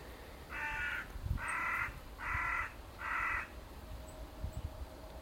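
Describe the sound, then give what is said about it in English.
A crow caws four times in a steady, evenly spaced series, each call harsh and drawn out, clear over faint outdoor background noise, on a grey morning around 11 o'clock. “The crow agrees, doesn't you, Mr. Crow?”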